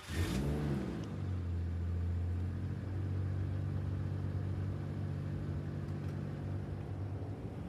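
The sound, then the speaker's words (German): A tractor engine cranks and catches with a brief burst, then settles into a loud, steady low diesel rumble as it pulls away, with no voices. “Und deswegen würde ich sagen, starten wir mit meinem Traktor und fahren wir los.”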